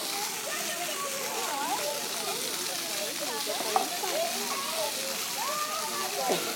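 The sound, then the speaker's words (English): Steady, hissing spray of water from a lawn sprinkler runs throughout, with muffled voices murmuring faintly underneath. “She's in one of the sprinklers now.”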